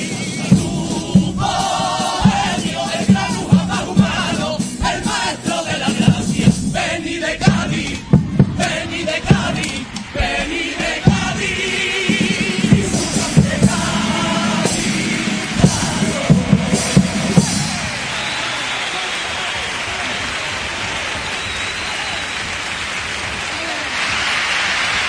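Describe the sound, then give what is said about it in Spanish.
An audience, many standing, gives loud, sustained applause punctuated by shouts and cheers for a pasodoble lyric in memory of Beni de Cádiz, the clapping dense and crackling before settling into a smoother, steady wash of sound toward the end. “Pues son muchos los que se ponen en pie para aplaudir esta letra en recuerdo al Beni de Cádiz.”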